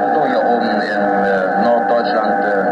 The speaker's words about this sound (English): Up here in North Germany, the reception is pretty poor. But this isn't just bad reception. This sounds like jamming.